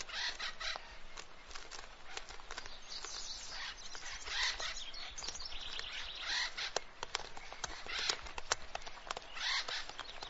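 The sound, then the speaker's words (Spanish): Acorn woodpecker calls fill the air, a busy, overlapping stream of harsh, squawky chatter from several birds, steady throughout with no talking. “Las cajas de seguridad del pájaro carpintero.”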